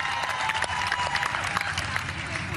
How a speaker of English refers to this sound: Just shout out to the teammate. Just let everybody give them a clap.